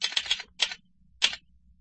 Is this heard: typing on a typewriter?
yes